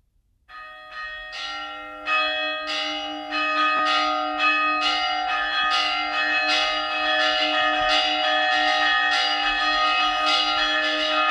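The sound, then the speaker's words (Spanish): Church bells in the belfry of San Juan in Zamora, Spain, rung by two bell ringers in a lively, festive Castilian peal, strikes coming in quick regular succession and building into a dense, sustained ringing with long overlapping resonance, loud, with no voices. “yo me voy a arriesgar, yo digo que esto es fiesta. Sí, es fiesta, es fiesta. En otras zonas de Castilla, este es un toque muy castellano.”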